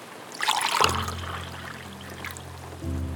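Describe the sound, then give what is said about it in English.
Coffee is poured into a cup in the morning: a brief, splashy pour lasting under a second, followed by a steady low humming tone with no talking. “So I poured my coffee, pressed record, and decided to follow wherever the pour takes me.”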